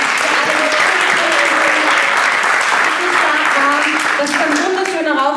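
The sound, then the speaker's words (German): Sustained audience applause for everyone who competed and submitted entries, a dense, steady wash of clapping at even loudness throughout, with faint voices and cheers murmuring underneath. “Und ja, ich möchte trotzdem um einen Applaus für alle, die angetreten sind, für alle, die eingereicht haben.”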